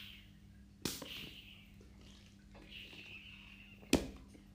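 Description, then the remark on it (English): Two short, sharp spritzes from a pink Nike spray bottle, about three seconds apart, each a crisp hissing burst over a faint steady background hiss and low hum. No one speaks. “That gave it away, so if you guessed it right, it was a Nike spray bottle.”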